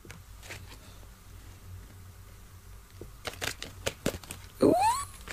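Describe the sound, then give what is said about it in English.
Tarot cards being shuffled: a quiet stretch, then a cluster of quick, crisp flicks and riffles in irregular bursts over a low steady hum, ending with a short rising whine. “I'm going to shuffle them.”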